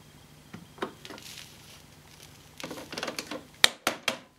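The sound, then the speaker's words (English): Rustling and soft pattering of debris, mostly fibrous dog hair, tipped out of a Shark Rocket vacuum cleaner's dust bin onto a sheet of paper after vacuuming a small three-seater sofa, ending in a few sharp plastic clicks and taps. “Okay, the next time you'll see me in the rocket is when I empty the bin after giving all this sofa a thorough clean.”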